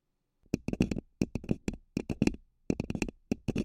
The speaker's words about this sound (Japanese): わかるかな？これはね、紙コップの音だよ。バイノーラルマイクにかぶせて、その上から爪で。いい音でしょ？